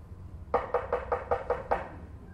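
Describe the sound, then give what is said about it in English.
A quick run of about seven evenly spaced knocks on a door, firm, then silence with a faint low hum underneath. “You're going to be knocking on somebody's door to say what?”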